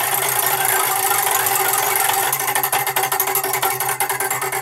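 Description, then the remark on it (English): A joke-category prize wheel (bad, blonde, Irish, Little Johnny, dad joke) is spun with a rapid, loud clicking that blurs into a steady rattle, then separates into distinct, quickening-to-slowing ticks in the final seconds before landing on dad joke. No one speaks. “Spin the wheel.”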